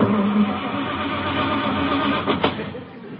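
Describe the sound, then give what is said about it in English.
A car engine in a driveway at night cranks over and over without catching, a steady grinding churn with a low hum underneath and a couple of sharp clicks near the end. “This car's giving me a lot of trouble.”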